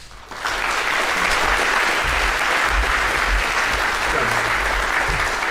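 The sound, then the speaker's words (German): An audience at a talk breaks into steady, dense applause for two speakers being introduced; it starts abruptly after a brief pause and holds at an even, loud level, a broad wash of many hands clapping with no voices standing out. “Und ja, ich freue mich mit euch zusammen und lasst uns eine Runde Applaus spenden an unsere beiden Speaker.”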